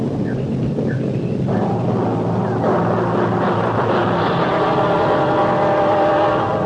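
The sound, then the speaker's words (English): A deep, continuous rumble from a nuclear test explosion roars steadily, swelling slightly partway through and holding loud to the end, like the drawn-out aftermath of a huge underground explosion. “There she goes, the nuclear test.”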